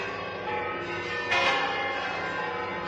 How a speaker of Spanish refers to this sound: Así sonaban las campanas en la archidiócesis el pasado jueves por la tarde, en esa alegría que, como bien saben, tenía lugar con motivo de la elección del nuevo pontífice